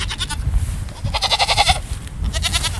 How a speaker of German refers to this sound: Oh, jetzt muss ich mal anhalten. Da sind ja zwei nette Ziegen hier im Gatter, direkt neben dem Weg.